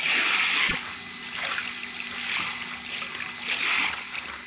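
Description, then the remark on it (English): Muffled, churning water surges and ebbs steadily as a powerful sea tide rolls a stone-weighted cedar chest over and drags it along the sandy, pebbly sea bottom, with a single dull thud early on as the chest tumbles, and a faint low hum of glowing kryptonite running underneath throughout. “The powerful tide catches at the chest and rolls it over, then drags it along the sandy, pebbly bottom, turns it again and again and again, as in some grim, ironic game.”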